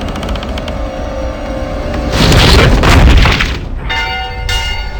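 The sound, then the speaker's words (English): A large, resonant warning bell rings with sustained, shimmering overtones, swelling into a deep booming surge midway before the ringing tones settle back in. Loud, with no voices. “Heed the warning bell, for they are coming.”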